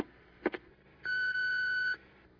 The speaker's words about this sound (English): Sorry, I can't come to the phone at the moment. Please leave your name and number after the F sharp.